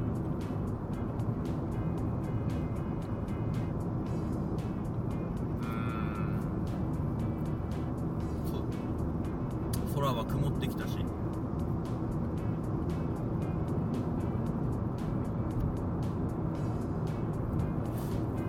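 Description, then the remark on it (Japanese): Steady, loud low-frequency road rumble from inside a car moving on an expressway with heavy traffic in both the normal and passing lanes, recorded on 14 August 2014 around 10:30. It is continuous throughout, with a man speaking over the droning engine and tire noise. “なんか普通車線も追い越し車線も車が多い。”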